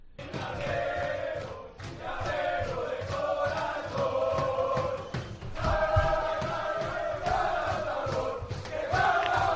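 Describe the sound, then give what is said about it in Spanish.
A loud group of voices, players celebrating that they advance in the Copa del Rey, chants and shouts together, with steady rhythmic clapping or stomping running underneath the whole time. “Bueno, pues alegría obviamente los jugadores en cuanto supone que siguen adelante en la Copa del Rey.”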